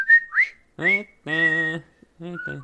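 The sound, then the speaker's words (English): A person whistles the whistling part from the film The Breakfast Club: a couple of quick, close notes, then a short tune with voiced, hummed-sounding phrases, broken by brief pauses, with no spoken words. “I wanted to do the whistling part, but I forgot it.”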